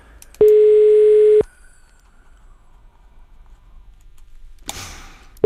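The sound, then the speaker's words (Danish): A telephone ringback tone from an outgoing call: a steady, loud one-second beep, a long quiet pause of about four seconds, then the next beep beginning. No one speaks. “Så jeg prøver lige at ringe til ham.”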